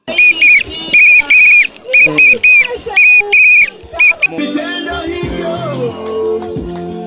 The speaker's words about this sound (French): Le sifflet est l'un des moyens utilisés par ces femmes lorsqu'elles sont au champ et attaquées par les violeurs.